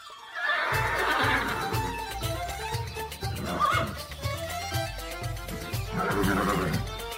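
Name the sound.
horses neighing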